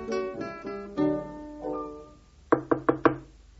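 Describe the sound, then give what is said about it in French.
Four quick, sharp, loud knocks on a door in an even rhythm, following a few sustained musical tones that fade out just before the knocking. “Toc, toc, toc, quelqu'un frappe à ma porte.”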